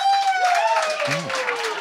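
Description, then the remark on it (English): A debate audience applauds steadily to vote undecided on whether wokeness is killing comedy, a dense wash of clapping with voices and a sliding whistle-like tone mixed in, sustained and fairly loud throughout. “And finally, clap if you're undecided.”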